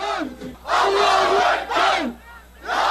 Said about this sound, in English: Crowds waved flags at the late-night rallies and chanted their determination not to let anything or anyone divide the country.